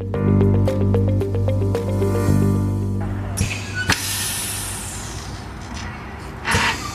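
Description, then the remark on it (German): A short musical passage gives way to the steady hiss of a municipal utility's hydrogen bus in Wuppertal being refuelled from a filling pump nozzle, with sharper hissing bursts and a low vehicle rumble underneath. “Wir werden gerade Zeuge, wie ein Wasserstoffbus betankt wird. Es zischt ein bisschen und ganz langsam sehe ich jetzt, wie viel Kilogramm hier die Seiten wechseln aus dem Tankrüssel in den Bus der Wuppertaler Stadtwerke.”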